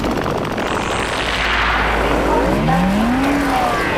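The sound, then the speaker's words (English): A two-seater car's engine rumbles steadily, then revs up with a rising whine as the car pulls away, loud and continuous with no voices. “I'm driving. It's a two-seater, so the ladies in front, obviously.”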